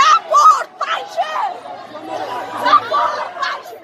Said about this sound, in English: Just this past Tuesday in Kabul, hundreds of Afghan women led one of the largest protests against the Taliban, and Tolo was there to cover it.